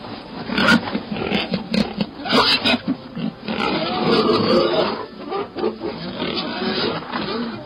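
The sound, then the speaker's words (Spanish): A jester alone on a stage in a packed theater bows his head to his chest and imitates a pig with his voice, making a long run of rough, throaty grunts and snorts that rise and fall in uneven bursts, loud and raspy with no speech. “De repente, inclinó la cabeza hacia su pecho e imitó con su voz el gruñido de un cerdo.”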